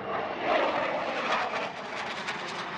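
A military jet roars overhead in Virginia Beach in a steady, broad wash of engine noise, rising slightly then holding, unbroken, with no voices.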